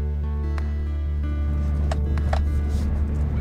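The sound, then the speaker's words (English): A steady, loud engine drone fills the cab of a truck driving on a rutted dirt road on the Navajo Nation, with a few sharp rattles and bumps jolting through the rumble. “Yeah, we're on this like rutted dirt road.”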